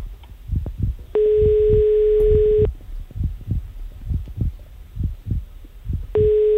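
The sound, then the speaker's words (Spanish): A steady telephone ringback tone sounds twice while a Radio Olé studio waits for a listener to answer a call: a long unbroken beep followed by another starting near the end, over a continuous low, rhythmic thumping like a heartbeat. “como no coja el teléfono, a mí me da un telele.”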